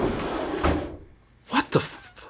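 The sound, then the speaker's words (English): A desk drawer, the second from the top on the right, slides open with a rough, rumbling scrape, then after a short pause two quick wooden clunks follow, fairly loud, with no voices. “Now, go to your desk and open the second drawer from the top on the right.”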